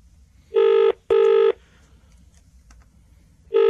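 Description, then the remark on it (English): Loud, buzzy telephone keypad dialing tones sound in a quick double burst, then a pause and another burst beginning, with faint background noise in between and no talking. “Do I need to ask for her, or will she answer the phone?”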